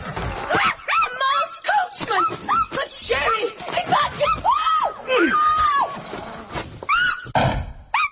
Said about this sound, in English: Oh, you horrid little dog!